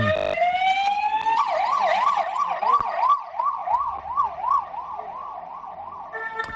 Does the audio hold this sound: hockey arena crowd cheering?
no